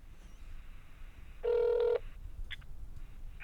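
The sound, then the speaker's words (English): A single short electronic telephone ring, a bright tonal double-pulse lasting about half a second, stands out clearly over a quiet background hiss, followed by a couple of faint blips. “Wait, the phone's ringing.”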